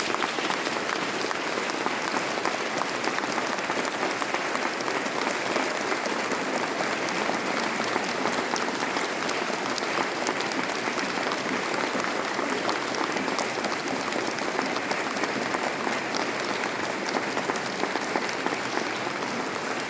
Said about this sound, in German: Und jetzt aber nochmal für alle den großen Applaus. Dankeschön.